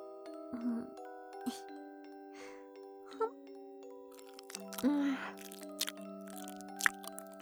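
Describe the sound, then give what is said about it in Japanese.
A mother chews soft sweet potato, wet chewing with irregular mushy bites and smacks spaced a second or so apart, over faint sustained background tones. “いいよ、ママがお口の中でもぐもぐしてるところ直接見せてあげる。じゃあ今度はお芋さんにしよっか。”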